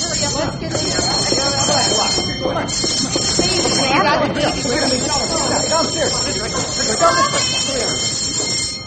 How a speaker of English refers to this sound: It's too late now. I'm going to sound the alarm and get everyone into the shelter.